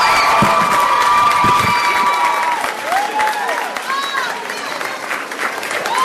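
A crowd applauds the student winners of New Jersey's Shoutdown Drugs with steady, loud, dense clapping, joined by cheers and high-pitched whoops and shouts rising over the noise throughout.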